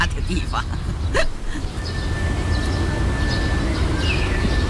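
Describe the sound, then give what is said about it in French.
Scattered high bird chirps and short twitters from birds in pagoda trees in a small park at a music academy in northern Beijing in spring, over a steady low rumble of background noise, with a thin, sustained whistle-like tone running through the middle. “Un chant qui s'envole dans le ciel du printemps, une flûte accrochée à une fenêtre et des oiseaux à la fête dans les arbres à pagodes.”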